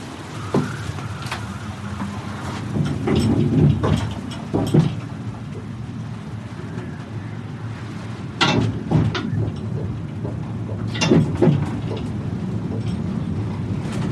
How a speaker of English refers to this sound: The cable car rocks back and forth, swaying 50 meters over the ocean